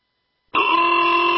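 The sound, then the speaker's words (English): After a brief silence, a car horn blares in one loud, steady, sustained blast that holds to the end, with no talking. “Why do I hear honking?”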